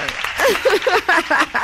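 A short burst of applause, clapping hands mixed with excited cheering and whooping voices, lively and fairly loud for under two seconds.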